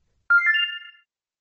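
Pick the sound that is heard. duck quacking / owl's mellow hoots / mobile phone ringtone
mobile phone ringtone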